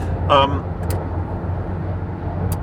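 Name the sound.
car driving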